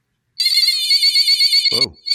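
An energy stick toy, a small plastic tube with diodes inside and aluminum on both ends, sounds a loud, high-pitched warbling electronic tone for about a second and a half as both ends are held, making a light flash. A person briefly exclaims as it stops, then the tone starts again.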